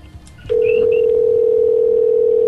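A phone number being dialed again: a few faint clicks and short chirps, then a steady, unbroken telephone tone holds at one pitch, loud and continuous until the end, with no speech.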